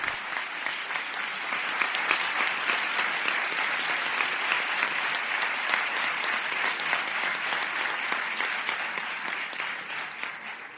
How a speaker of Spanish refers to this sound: de doctorado en neurociencia los que están en el escenario recibiendo de manos del rector pues esa imposición del birrete y también ese diploma como doctores ya en neurociencias de la Universidad Miguel Hernández. El aplauso también para ellos.